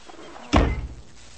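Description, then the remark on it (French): A single heavy door, the door of Noah's boat shut after all have entered, slams with a sharp, loud bang and a brief booming low rumble that fades within a moment; no one speaks. “Dieu vous dit Noé pour entrer avec famille en bateau, Il est nouveau entré, j'ai fermé la porte.”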